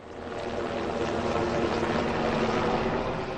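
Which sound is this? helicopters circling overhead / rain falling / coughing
helicopters circling overhead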